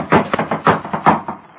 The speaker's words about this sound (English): Ezra knocked at the door and... Come on, Will. Wake up and open the door. Can't be in bed yet.